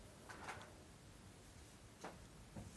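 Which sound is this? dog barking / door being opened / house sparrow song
door being opened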